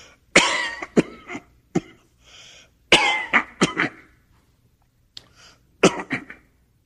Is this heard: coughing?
yes